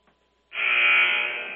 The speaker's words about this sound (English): Hear the buzzer.